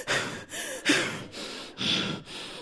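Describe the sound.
A voice imitates a sister's heavy, exasperated breathing on the phone: about six loud, rough huffs in quick succession, each a harsh exhale with brief pauses between, and no words spoken.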